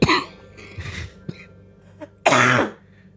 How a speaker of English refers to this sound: You coughed right there because that was an excuse to make me not sing. No, that was just me trying to laugh and then coughing.